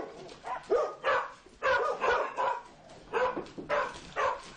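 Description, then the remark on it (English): Several dogs waiting at the door bark excitedly in quick, irregular bursts, with yips and whimpers mixed in, moderately loud, continuing for a few seconds with no one talking. “I've told all the dogs he's coming, and everybody's waiting at the door for him.”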